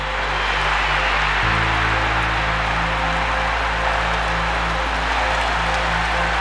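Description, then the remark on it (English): A huge baseball stadium crowd roars after a home run in a loud, sustained wall of cheering that never lets up, with a steady low rumble underneath and no clear voices standing out. “I really never heard a crowd unload like that.”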